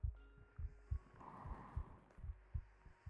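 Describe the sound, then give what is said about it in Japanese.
A muffled heartbeat thumps steadily in low, paired beats, repeating about every third of a second over a soft background hum, with no voices. “私の体温を、鼓動を感じてるから、ぐっすり眠れる。”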